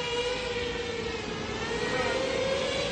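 A steady, high-pitched mechanical buzz of a small remotely operated Russian drone chasing a vegetable vendor around his market stall in Kherson, Ukraine, whines continuously, its pitch edging slightly upward as it holds loud, over a rough background noise.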